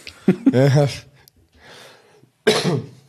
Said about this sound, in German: Wo ich gerade schon halb ins Mikro huste, ich entschuldige mich jetzt schon mal, ihr werdet mich noch einige Male husten hören, ich bin noch ein bisschen stimmlich angeschlagen.